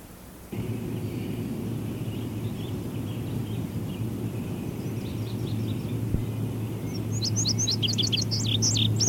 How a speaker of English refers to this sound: hear the indigo bunting here again. I noticed it when I was recording my last comment. It seems to be happy with a low perch somewhere back over there in the blackberry bushes this morning rather than this bird. It's not spending much time out here.